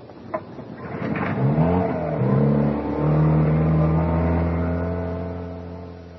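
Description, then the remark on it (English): The inboard engine of the captain's dinghy sputters to life with a couple of sharp knocks, then revs up, its droning pitch climbing and holding steady, loud. “Why do you think I picked the captain's dinghy? The only one with an inboard engine.”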